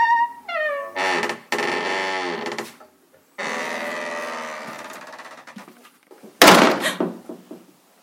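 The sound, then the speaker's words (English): A white door creaks open on long, groaning hinges, then swings shut with a loud slam near the end, its creaking tail fading away afterward. No one speaks. “You must go through the door.”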